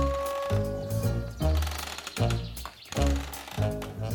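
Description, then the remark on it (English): A woman asleep in a rocking chair on a porch snoring in rhythmic, loud low rasps, roughly one per second, over a faint steady tonal backdrop, with no talking. “As she rocked, her eyes grew droopy, until at last the crow heard the sound that it was waiting for. Snoring, the woman was asleep.”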